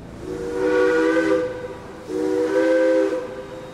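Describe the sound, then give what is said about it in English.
A steam locomotive whistle shrieks in two long, loud blasts, each sustained for over a second with a short gap between, over a steady background hiss of steam. “The refugees travelled overland at first, mostly boarding and disembarking steam locomotives that puffed and shrieked their way west.”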